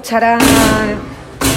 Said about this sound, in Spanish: escuchará la gente pues un eco y un sonido extraño, porque acabamos de abrir la puerta y estamos entrando ahora mismo.